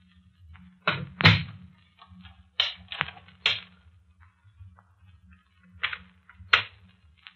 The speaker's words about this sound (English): Did you lock both doors, Captain? Right. And I'm keeping the keys to both Parker's and Miss Carroll's rooms with me.